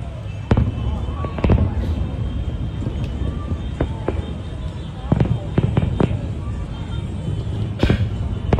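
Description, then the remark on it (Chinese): Repeated fireworks bursts pop and boom at irregular intervals, some in quick clusters, over a steady low rumble of crowd noise, watched from a restaurant with a sea view. Several bangs sound fairly close and sharp. “因为放烟花嘛 ，OK， 因为放烟花， 咁啊睇下个烟花先，我想拉 放个烟花。”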